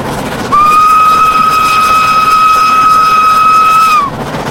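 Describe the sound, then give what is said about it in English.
The 12:20 train roars by with a constant rushing rumble, while a single long, steady whistle blasts for about three and a half seconds before dropping off. “A bell rang, and the 12:20 thundered past.”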